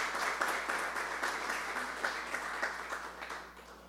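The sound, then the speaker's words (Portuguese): Steady applause from an audience as the mayor, José Pulici Sobrinho, is invited to take his seat at the evening's table, many hands clapping in a dense, continuous patter that holds level for several seconds and then begins to taper off. No one speaks over it. “Uma salva de palmas.”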